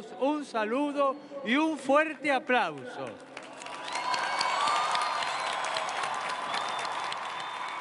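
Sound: large crowd applauding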